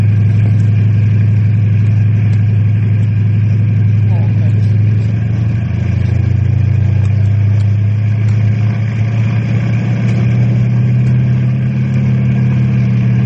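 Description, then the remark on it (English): A helicopter roars loudly and continuously, its deep engine drone holding steady, then shifting pitch slightly partway through as it swings around. “You turn too with that chopper whizzing around your head.”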